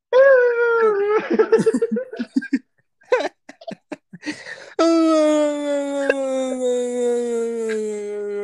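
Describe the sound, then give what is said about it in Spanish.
A person imitates a dog, starting with wavering whimpers and yelps, then breaking into a long, loud sustained howl. “Es que me Ah, okay. transformo en perro, güey.”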